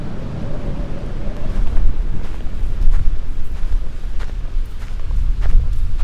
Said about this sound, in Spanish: Esta es una tormenta de arena en el desierto de Atacama, en Chile.